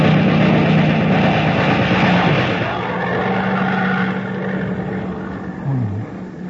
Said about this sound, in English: It's not our plane, it's theirs.